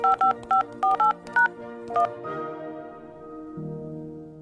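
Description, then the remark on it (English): A quick run of push-button telephone dialing tones, about seven short, evenly spaced beeps in the first two seconds, then a steady sustained tone that shifts pitch near the end. No voices. “And that meant hearing those tones over and over”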